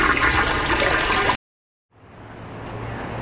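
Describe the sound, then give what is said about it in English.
A loud toilet flush roars, cuts off abruptly into silence, then a second flush rises and swells back up, two flushes back to back with no talking. “A Double Flush production.”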